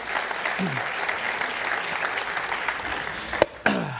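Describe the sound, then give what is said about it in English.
A church audience applauds steadily, a dense wash of many hands clapping at even volume for several seconds, with a brief louder burst and a short dip near the end. “Stephen's probably in the bathroom and missed that round of applause, but...”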